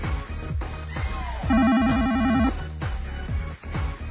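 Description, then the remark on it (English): A voice mimics a telephone ring with a single rapid warbling trill lasting about a second, loud and buzzy, over a steady low rhythmic thumping in the background. “Like, you see, that's a boring ring. They're very, very short rings.”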